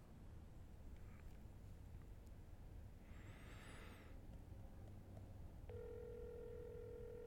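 A phone's ringing tone, heard through the handset as someone calls a misplaced phone to find it, comes near the end as a steady electronic hum. It sits over constant rumbling background noise, and a brief warbling chirp sounds a few seconds earlier.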